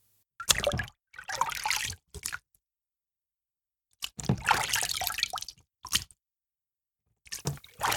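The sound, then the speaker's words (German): Water is scooped with cupped hands from a bowl into a bucket and back in repeated bursts, sloshing and dripping with pauses between strokes, imitating the rhythmic pull of oars on a rowing boat. “Als nächstes ahmen wir ein Ruderboot nach. Dafür schöpft ihr mit euren hohlen Händen Wasser aus der Schüssel in den Eimer und umgekehrt.”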